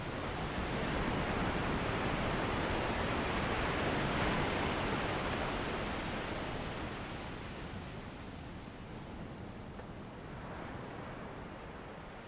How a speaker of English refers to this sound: But for now, just listen to those ocean waves.